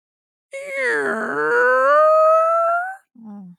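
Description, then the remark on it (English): A voice imitates a creaky door as a ghost-story sound effect: one long, strained, groaning tone that starts gravelly and slowly bends upward in pitch, ending with a brief low grunt. Loud, with no other sounds. “You call out the ghost story sound effect you want to hear, and I'll give it to you, okay?”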